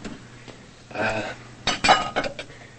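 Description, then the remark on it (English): Dishes clink and clatter as two dishes are carried and set down in a kitchen sink, a brief rattle followed by several sharp ceramic knocks in quick succession. “Madeline watches him carry the dishes to the sink.”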